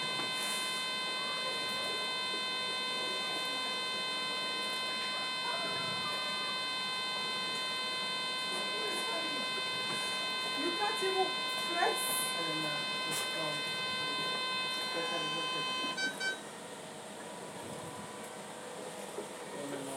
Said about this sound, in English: All that noise, that's someone's alarm going off.